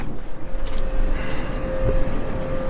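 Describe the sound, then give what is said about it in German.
An air conditioning unit outside a hotel window drones steadily, a low rumbling whir with a constant humming tone running through it, unchanging for the whole stretch with no voices. “Da hört man vielleicht schon die Klimaanlage, die hier vor dem Fenster ist, die aber nicht für mein Zimmer ist.”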